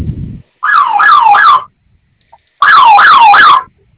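A loud electronic security alarm siren at the Burger King Aeropuerto restaurant in Mexico City sounds in two bursts of about a second each, its pitch warbling rapidly up and down, separated by a short silence, with a brief low thump at the start.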